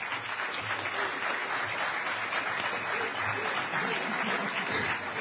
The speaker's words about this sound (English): Now, if it weren't for the folks at registration, none of you would have been able to get into the door. So, so I'd like to give a round of applause